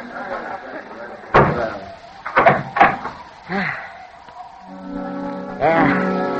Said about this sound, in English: Wait. Wait till I make fast this door.